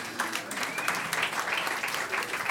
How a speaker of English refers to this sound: Applause ripples slowly from the back right side of the room. Much of the rest of the crowd is, we did not come here today for this.